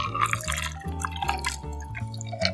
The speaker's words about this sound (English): When it's nice and chilled, strain into a cocktail glass.